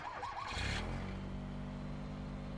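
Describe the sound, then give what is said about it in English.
A car engine cranks with a short burst of noise, then catches and settles into a steady, loud rumble as it pulls away. No one speaks. “Instead, I finished my beer, got back in my car, and I drove.”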